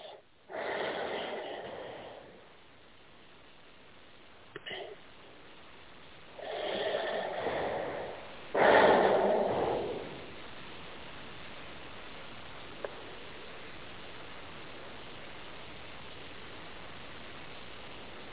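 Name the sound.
slow deep breathing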